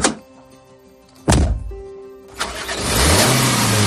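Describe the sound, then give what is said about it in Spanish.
A few heavy thunks like car doors shutting, then a car engine turns over and revs up loudly in San Sebastián, its rising rumble suggesting the vehicle pulling away. No voices. “De repente, empieza a tocar el trasero de una menor y la fuerza hasta llevarla a un coche.”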